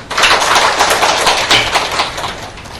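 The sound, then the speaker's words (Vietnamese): A crowd of Buddhist lay followers at a Buddhist practice gathering claps together in a dense, steady round of applause honoring merit, many overlapping claps blending into a bright rattle that holds for a few seconds before tapering slightly. No voices. “Vì trước hết xin quý vị Phật tử xin tán thán công đức quý vị Phật tử cho một tràng pháo tay.”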